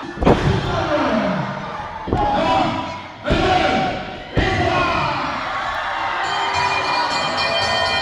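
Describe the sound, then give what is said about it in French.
A roaring wrestling crowd with several heavy slams hitting the mat as a wrestler performs a piledriver, four sharp impacts in the first few seconds, then sustained cheering and shouting carrying on loudly to the end. “Il a fait le marteau au pilon.”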